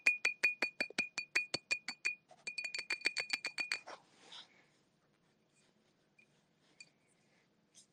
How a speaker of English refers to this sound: Hold on. Oh, it's glass. Can you hear the tippy tap of glass?